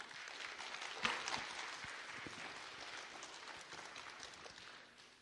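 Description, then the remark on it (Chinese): A room full of people applauding steadily to welcome a speaker who will share about the CCE ministry, a dense wash of claps that swells near the start and holds at an even level for several seconds, with no one speaking. “好吧，我们拍手来欢迎他。”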